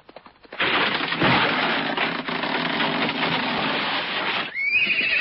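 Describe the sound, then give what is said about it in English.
A loud, drawn-out neigh from Dobbin the horse, harsh and breathy, sustained for about four seconds before ending in a short, higher-pitched squealing whinny. No one speaks. “Why, look, Svengali, this announcer disguised as a horse has a thing in its hoof.”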